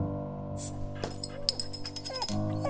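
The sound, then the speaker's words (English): A dog named Tootsie gives a few short, rising and falling whimpers, heard over a steady low hum in the background. “Alcohol isn't for dogs.”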